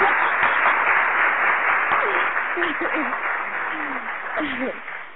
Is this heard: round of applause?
yes